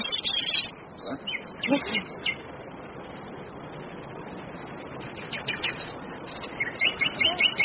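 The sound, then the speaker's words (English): Nightingales singing in England, heard from inside a room, in bursts of bright, rapid chirps and trills, with pauses between phrases over a soft background hush. “Nightingales. Nightingales in my room.”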